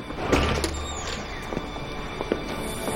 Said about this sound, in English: They turn and enter the theater through separate doors.